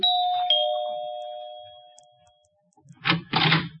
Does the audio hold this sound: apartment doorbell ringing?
yes